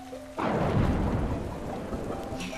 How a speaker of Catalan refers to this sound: Oh, torna a ploure! Quina sort que ja som a casa, amic! Torna a ploure de debò! Cau un bon xàfec!